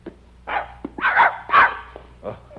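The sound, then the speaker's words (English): A dog named Lazarus barks about four times in quick, uneven succession, fairly loud, with short yelping barks over a faint low hum. “Good dog.”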